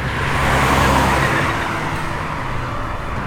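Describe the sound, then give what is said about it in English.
A car engine roars amid traffic as the gas pedal is pressed to the floor and the car swerves into traffic, a loud, continuous rush of motor and road noise that swells slightly before steadying. No voices are heard. “Stepping the gas pedal to the floor, Val's vehicle swerves into traffic.”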